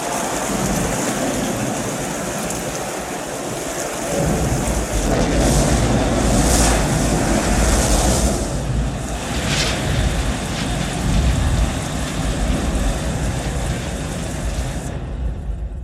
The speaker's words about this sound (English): A deluge of such magnitude that the world's greatest waterfalls, flowing together for more than a million years, would only just begin to approach its results.